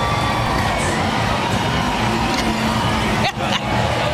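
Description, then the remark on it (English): A loud, steady wash of parade crowd noise from a large crowd on the strand, cheering and shouting voices blending together with a low rumble of passing vehicles underneath, continuing without a break for several seconds. “If you're seeing the crowd here, folks, I'm telling you, this rivals some of our Family Day parades.”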